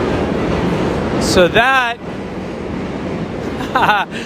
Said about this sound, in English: that is the sound of the J train crossing the Manhattan Bridge into the Lower East Side